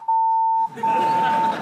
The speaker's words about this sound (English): Actors are no longer doing the red carpet, and even if they mention the title of their movie on a podcast, it gets bleeped out in the edit, which is great news for...